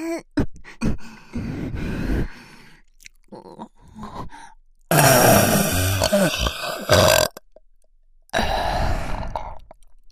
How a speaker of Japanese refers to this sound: ほら 射精準備。射精用のエロゲップ出まーす。